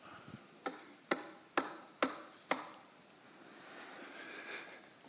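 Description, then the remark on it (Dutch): Five sharp knocks on a door, evenly spaced in a quick steady rhythm and fairly loud, knocked as a demonstration while reading Revelation 3:20 ("I stand at the door and knock"), followed by a few seconds of quiet background noise with no talking. “Zie, ik sta aan de deur. Ik wilde eigenlijk even naar buiten lopen, maar ik denk, ja, dat wordt zo ongeorganiseerd. En op die deur lopen kloppen.”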